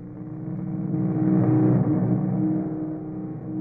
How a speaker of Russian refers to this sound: Целый отряд. В мотоциклах.